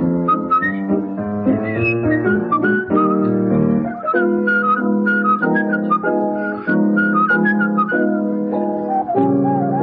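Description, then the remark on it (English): A man whistles a lilting tune in clear, high notes over a full, steady instrumental backing, the melody moving in even phrases and staying loud throughout with no talking. “others who like it best when he whistles.”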